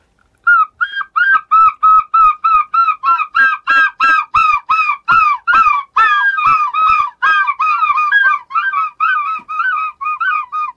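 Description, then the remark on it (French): A human voice imitates a herring gull's call: a loud, rapid series of about two dozen nasal yelping notes that run on steadily for around ten seconds, with no talking. “C'est le goéland argenté, donc c'est une espèce qui voit ses effectifs plutôt augmenté, c'est une espèce qui se porte bien et qui va dans les terres la journée et qui le soir rentre sur la baie de Somme pour aller dormir”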